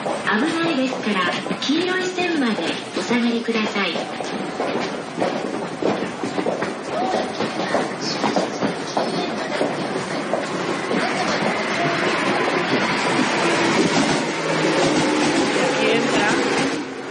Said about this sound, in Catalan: Sí, exacto. Ho escoltem. Es la entrada del tren. ¿Vale?